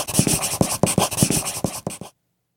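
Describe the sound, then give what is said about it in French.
A pencil scratches briskly across paper in quick repeated strokes, fairly loud, for about two seconds before stopping abruptly into silence. “Et oui, c'est la prise de notes, le moment, chers auditeurs, où vous devez prendre un crayon et un papier et noter ce que l'on vous raconte”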